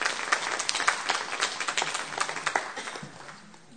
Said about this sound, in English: And we are so glad to have her with us today. Can we give her a round of applause as she steps up here?